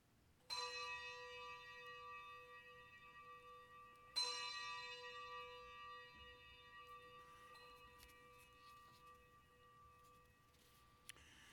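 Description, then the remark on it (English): Two clear bell strikes ring out about four seconds apart, each with a long shimmering decay, followed by a few softer, scattered chimes. No one speaks. “Let us ring the bells of acceptance.”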